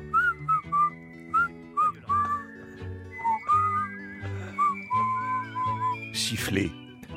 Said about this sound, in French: Siffler pour se plaindre, siffler pour se réjouir, siffler pour occuper sa bouche, pour occuper ses oreilles, siffler pour se donner du courage, du cœur à l'ouvrage, siffler pour faire taire les rumeurs, les conneries, les colères, les tristesses,